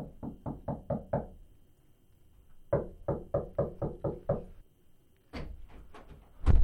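Two quick bursts of firm knocking on a wooden door of a poet's house in the village of Al-Shaqra, about six raps each, clear, followed by a few louder, sharper thuds and a rising rustle at the end.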